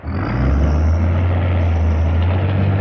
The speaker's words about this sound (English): Well, I'm walking as fast as I can up the row behind the planting tractor, the seeding tractor. It's barley seed that they're planting now, because barley is the first crop that will be harvested.